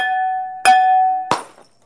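A glass rings with a steady, bright tone, then takes two sharp, hard blows from a hammer; the second cuts the ringing off with a short crunching clatter that quickly fades. No voices.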